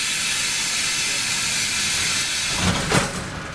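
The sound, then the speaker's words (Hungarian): A steady, loud pneumatic hiss runs throughout, then metro train doors shut near the end with a short double burst of thumping and a sharp rush of air. “Ajtók bezárultak, mi pedig visszatértünk.”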